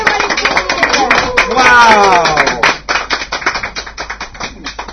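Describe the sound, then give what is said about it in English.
Applause from a small group, a steady patter of claps lasting several seconds, with cheering voices rising briefly in the middle before the clapping thins out. “Let's give a big applause”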